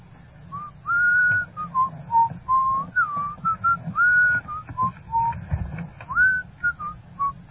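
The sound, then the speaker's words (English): A person whistles a lively tune of short and sustained notes in a steady rhythm, clear, with a low rumbling background underneath and no talking. “Now, just whistle for a second, ….”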